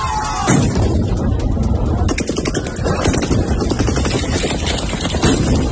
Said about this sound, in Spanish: en Jersón se producen tiroteos contra la población civil. Para que te hagas una idea, imagínate un centenar de personas cortando el paso a los soldados rusos en una plaza de la ciudad. Les gritan que se vayan a casa y pasa esto.